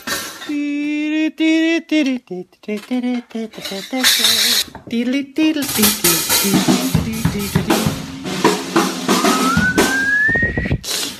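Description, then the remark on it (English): Loud, irregular metallic clanging and banging of pots and pans by Trey Cool in an Instagram video, with a busy clattering rhythm and some ringing, wailing tones mixed in, especially near the start. “Pots and pans.”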